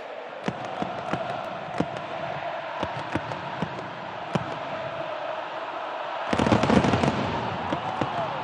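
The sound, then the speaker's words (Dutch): Argentina football fans in Buenos Aires celebrating the championship: sharp firework bangs crack irregularly over a steady roar of a large crowd, with a louder burst of cheering and rapid pops near the end. “Ja, hebben jullie die beelden gezien van Argentinië dat in Buenos Aires de kampioenswedstrijd vierde?”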